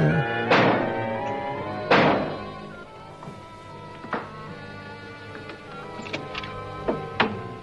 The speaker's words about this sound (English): By the way, they have a knocker, and it's like the size of a pizza. Look at the size of the door. The door is huge.